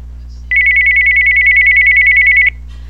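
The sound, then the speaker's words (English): A steady electronic home phone ringtone, just assigned as the Skype ring, warbles for about two seconds, a bright, rapidly pulsing tone that starts and stops abruptly over a faint low hum. “And that lets you know that you have just assigned the home phone ring to the Skype ring.”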